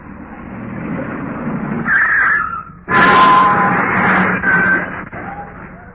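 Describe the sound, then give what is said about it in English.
A car driven by a naval officer drives up and pulls in, its engine rumbling steadily and growing louder partway through, with a thin high whine riding over the motor noise. “I think this is their car now, sir.”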